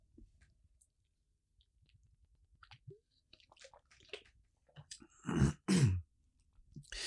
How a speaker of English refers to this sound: So, my sleepy bunny, your magic daddy is going to take a sip of water.